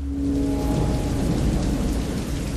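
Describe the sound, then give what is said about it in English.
A heavy storm roars steadily at dawn, with dense pouring acid rain and a deep, constant rumble of near gale-force wind, loud throughout; a low moaning tone sounds briefly at the start. No one speaks. “The wind was close to gale force and carried the stinging bite of acid rain.”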